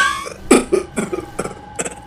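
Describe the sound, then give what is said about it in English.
A rough coughing fit: five or six harsh, hacking coughs in an irregular series, the loudest near the start, with short raspy breaths between them and no speech. “I hate these bloody coughing fits.”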